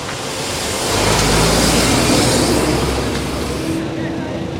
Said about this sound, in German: Während sie mit den Wärtern spricht, fahren an uns LKW vorbei, die Unmengen Müll geladen haben.